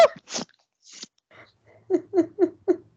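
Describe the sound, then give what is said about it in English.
A puppy bites and chews at an ear: scattered wet, crunchy mouthing sounds, then four quick, evenly spaced gnawing bursts near the end, moderately loud with no talking. “If anybody is just listening, there's a puppy attack happening.”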